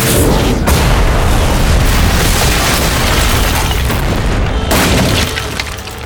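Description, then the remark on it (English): A loud ion cannon blast explosion: a heavy, roaring rumble filling the whole clip, with sharp new bursts near the start and again later, then slowly fading. No one speaks. “Ion cannon blast. Very bad.”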